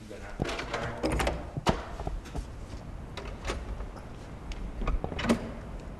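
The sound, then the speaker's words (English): A door at GM's Heritage Center car collection opens as visitors go through, with a series of sharp mechanical clicks and clunks, a brief whirring slide between them, and faint muffled voices and room noise underneath. “We're looking for reaction once you go through the door.”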